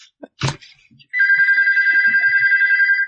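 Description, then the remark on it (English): A telephone rings with a loud, steady trilling tone that rapidly warbles and keeps going, preceded by a brief sharp knock. “Oh, there's my phone.”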